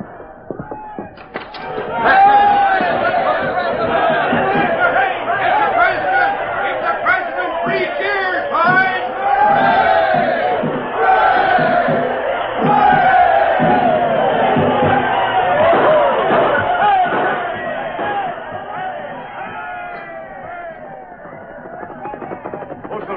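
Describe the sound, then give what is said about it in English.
A large, happy crowd in Dodge City cheers and hollers together at night in a loud, unbroken roar of overlapping voices that holds steady for about twenty seconds before easing slightly at the end. “Everybody in Dodge City's just happy, that's all.”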